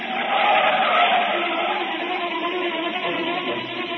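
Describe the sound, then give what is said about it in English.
A car speeds along with tires squealing and skidding, a loud, sustained roar and screech that holds steady for a few seconds with no voices. “Keep saying things you shouldn't, and she lashes out with an answer, and before you know it, you've stormed out of the house, and you're taking it out of the car.”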